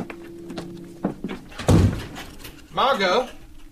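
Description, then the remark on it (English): A door is pushed shut with one heavy thud, followed shortly by a brief raised voice amid faint background noise. “please open the door.”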